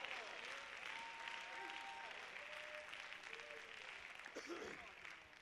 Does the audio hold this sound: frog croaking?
no